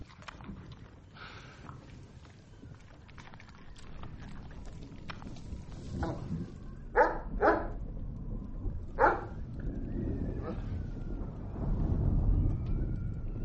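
A dog barks several times in short, separated bursts, moderately loud, over a steady outdoor rumble with some light clopping sounds in the background.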